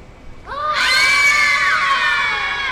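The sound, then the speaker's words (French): Loud, sustained screaming by several voices rises suddenly from inside a house and holds, shrill and strained, with no words spoken. “J'en sais rien, mais les cris avaient l'air terribles.”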